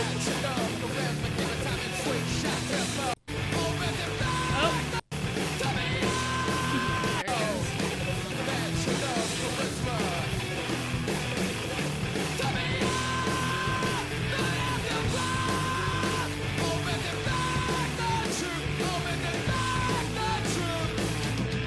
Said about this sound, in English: Let me get to that part where he starts screaming.